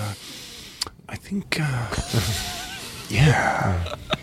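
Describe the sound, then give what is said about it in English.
A person imitates Jeff Goldblum's inward nose breathing: a few sharp, breathy sniffs and gasps with faint voiced murmurs, fairly loud, with no clear words. “Inward nose breathing. He does a lot of that.”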